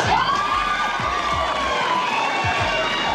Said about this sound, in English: These women would scream for anything.